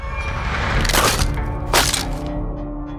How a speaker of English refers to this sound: stomped on the fiddle, splintering it into pieces.